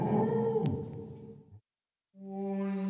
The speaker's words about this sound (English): What you can hear is him pausing at various recesses and creating a rumbling echo, which sounds almost like the growling of some sort of animal, a bison or a wolf.